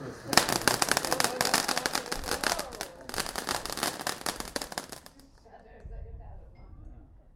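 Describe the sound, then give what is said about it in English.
A dense barrage of fireworks in a grand finale, including a rocket, crackles and pops for about five seconds, a rapid rattling burst of bangs, then fades to a low rumble with faint voices. “Oh, look, a grand finale rocket.”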